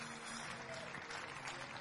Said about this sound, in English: Clap for them.